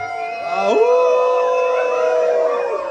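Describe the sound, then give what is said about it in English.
An audience howls together like werewolves, sustained, overlapping wails rising and sliding in pitch for several seconds, loud with a live feel. “All right, you werewolves, let me hear you howl.”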